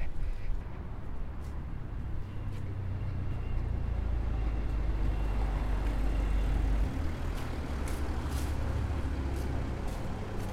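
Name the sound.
street traffic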